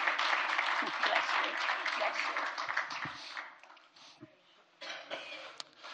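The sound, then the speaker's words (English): A crowd claps in sustained, dense applause that thins out partway through, then swells briefly again before fading near the end. “A round of applause”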